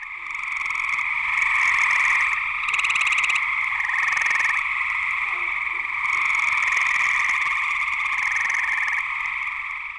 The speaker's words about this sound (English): frog romance is a raucous affair. When it's time to mate, the female eastern gray tree frog makes her way to the pond, where there could be hundreds of potential suitors, each calling to her in loud chirps that have different audible characteristics.